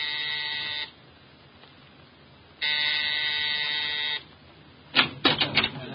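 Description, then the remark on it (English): A buzzing doorbell at Mrs. Collins' home in Empire Towers, rung at exactly 7, sounds twice, each a loud, steady electric buzz lasting about a second, with a pause between. A quick cluster of sharp clicks and rattles follows. No one speaks. “At exactly 7, I rang Mrs. Collins' doorbell.”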